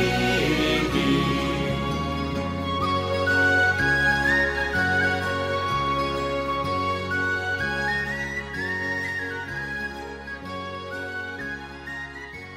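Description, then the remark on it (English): A bright, high whistle melody carries over a steady, bouncy folk band accompaniment with a regular bass pulse, loud and continuous throughout, with no singing or talking. “There was some nice whistle work on that, was there not?”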